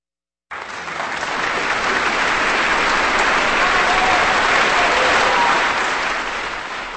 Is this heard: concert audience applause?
yes